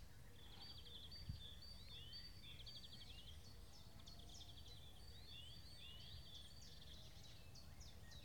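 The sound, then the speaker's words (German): Several birds sing at once, with rapid high chirps, trills and tweets overlapping without pause over a steady low rumble. Nobody speaks. “Und vielleicht hören wir jetzt noch eine Minute die Vögel.”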